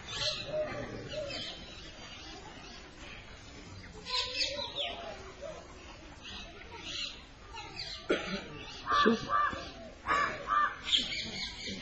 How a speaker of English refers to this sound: Even the crow sounds wonderful here.